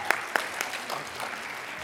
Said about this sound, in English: And yes, that deserves a cheer.